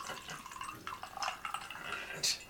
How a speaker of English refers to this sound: Can I get that glass? Yes, absolutely. You don't want to drink your water? No, just pour it in there.